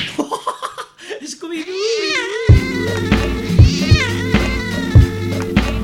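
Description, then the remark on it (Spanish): A person's voice imitates a cat meowing, starting with short choppy bursts and sliding into a long, wavering meow, before upbeat music with a steady thumping beat takes over. “este hombre os hace maullar.”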